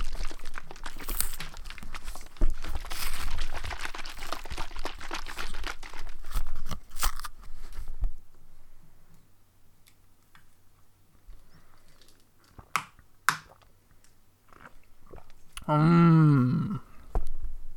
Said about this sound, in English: Let's open our milks and drink.